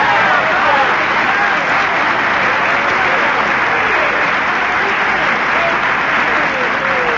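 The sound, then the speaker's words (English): A loud, sustained burst of audience applause, dense and steady for several seconds with many hands clapping at once and no voices standing out. “Clap for me.”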